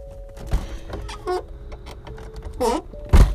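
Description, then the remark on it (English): A person's own car door shuts with a solid thump near the end, preceded by a few softer clunks and rustling, with brief faint voice-like murmurs in between. “Sorry, that was my car door because I went out to check on my best friend”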